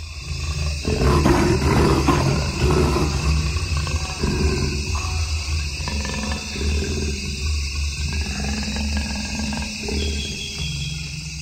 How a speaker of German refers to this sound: And it growled for maybe a minute and a half. And so I just sat there and listened to this animal breathe in the microphone. Of course, I had my earphones on, so I was hearing this as if it were, you know, right at my head.